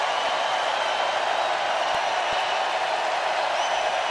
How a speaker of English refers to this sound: And as they say, the crowd goes wild. And they did.